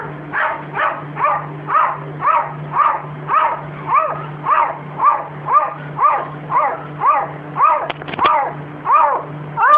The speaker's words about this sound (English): Even listening to it is amazing. It's an owner catching his cat barking like a dog, and then the cat turns around and starts meowing like a cat.